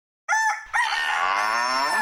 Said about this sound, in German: Ich habe, wie ihr gerade gehört habt, den Hahn und nicht die Henne.